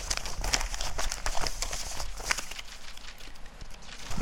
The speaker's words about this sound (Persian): چقدر ورق و کاغذ تیت شد. چی هست اینا؟ این همه فیش معاش چرا اینجا هست؟